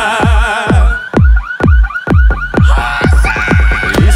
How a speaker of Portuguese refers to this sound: Os gravão pesado tão tremendo os caras andar. E os alarmes das caminhonetes já começaram a disparar.